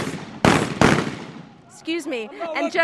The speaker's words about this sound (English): People are literally running in here, and the sound that you can hear behind me of shooting is celebratory gunfire. At one point, they actually fired an RPG into Gaddafi's house, setting it ablaze